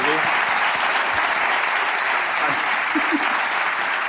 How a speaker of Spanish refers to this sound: un aplauso, joder.